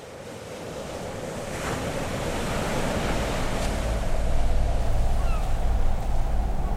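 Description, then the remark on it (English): Steady surf washes against the shore of an empty beach with a broad, continuous roar, swelling slightly louder partway through, with a low wind rumble underneath and no voices. “This time, the beach is empty. And the water appears clearer and cleaner than before.”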